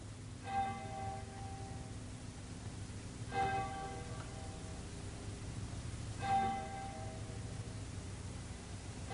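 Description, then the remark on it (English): A clock bell strikes three times at a slow, even pace, each ringing stroke carrying bright harmonic overtones that hang and fade over a steady low rumble. “Tell the clock there.”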